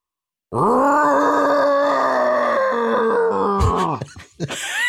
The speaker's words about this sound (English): I think that was a growl.